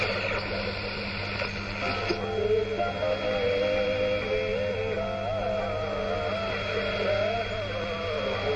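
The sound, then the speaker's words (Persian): A radio being tuned across various world radio stations: steady hum and hiss with warbling, sliding tones and faint garbled broadcast voices, shifting abruptly early on as the dial moves, continuous and moderately loud. “صدای ایستگاه‌های مختلف رادیویی جهان”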